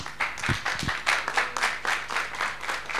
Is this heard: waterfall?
no